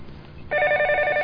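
A telephone at Empire Records starts ringing abruptly partway through, a steady electronic warble with two bright tones trilling rapidly and loudly, with no voices over it.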